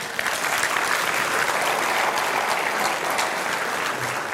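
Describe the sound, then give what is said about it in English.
A church audience celebrating the church's 50 years claps together in sustained, dense applause, steady and fairly loud throughout with no pauses, a continuous wash of hand claps. “And I think that's something that we need to clap about.”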